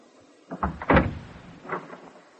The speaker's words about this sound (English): Will you open the door for me?